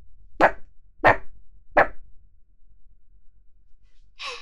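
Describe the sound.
A person imitates a small, aggressive dog with three sharp, yappy barks spaced evenly, fairly loud, followed by a pause and a short breathy exhale.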